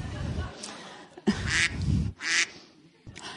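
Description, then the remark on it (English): A duck quacks several times in short, raspy bursts, fairly loud, with brief pauses between calls and a low rumbling background underneath. “And that's a duck.”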